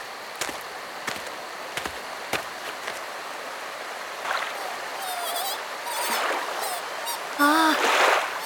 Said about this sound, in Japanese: さてと、では食器を小川で洗いますか。